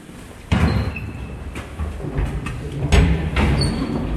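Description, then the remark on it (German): A person marching quickly through various rooms of a building opens and shuts doors several times in a row, each with a sharp clunk or thud, against a steady background rumble and some faint squeaky, whistling tones. “Im Schnellzugstempo marschiert er durch die verschiedenen Räume, macht Türen auf und zu”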